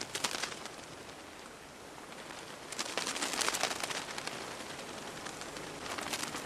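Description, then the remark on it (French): A dense, continuous flutter of the wings of billions of monarch butterflies, a soft crackling patter like light rain that swells slightly midway and then holds steady, with no voices present. “Mais non, en fait, ce sont les milliards d'ailes de papillons monarques.”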